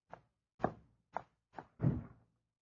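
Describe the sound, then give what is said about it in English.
A police lieutenant knocks five firm times on a door in an uneven rhythm, the last knock heavier and more resonant, with silence between them and no voices. “Come on, answer the door.”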